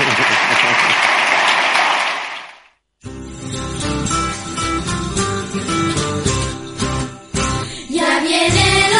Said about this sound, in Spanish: un aplauso para ellas dos